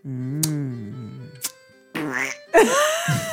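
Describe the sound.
A voice trying to say the French words "je lis" makes nasal, buzzy duck-like quacks: a long wavering honk, then two shorter rising bursts, with a couple of sharp clicks between them.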